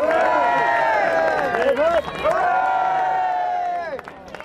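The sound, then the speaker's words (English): A crowd, led on by Frankie Fraser, cheers and shouts for Reggie as he leaves to go back to prison, loudly and continuously for several seconds, many voices overlapping in a dense, excited roar that dips briefly midway before tapering off at the end. “Led on by Frankie Fraser, crowds cheered for Reggie as he left to go back to prison.”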